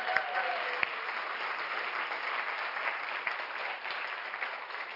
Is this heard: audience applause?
yes